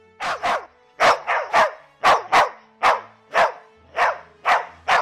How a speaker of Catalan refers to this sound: El gos espantat va començar a bordar com boig.